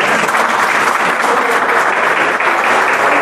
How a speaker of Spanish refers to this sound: Muchachos, yo creo que lo que menos se merece al profesor Gerson y al doctor Pedro Sucre es un fuerte aplauso.